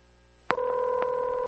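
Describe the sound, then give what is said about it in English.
A telephone number is dialed for a prank call to a crisis line: a sharp click, then a loud, steady dual-pitched keypad tone that holds for about a second, with another faint click partway through. No one speaks. “Phone Fun! Phone Fun! The dialing, devilishly demonistic... let's just piss someone off.”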